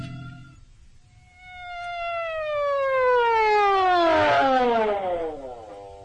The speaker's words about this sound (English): The alarm said Pine Street, didn't it? Oh, yes, of course. So why this siren? The only traffic out here is on horseback.